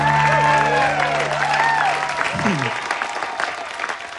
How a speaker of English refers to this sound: His name is Kevin Christie. Very funny man. Put your hands together for him. Let's have some fun. Kevin Christie.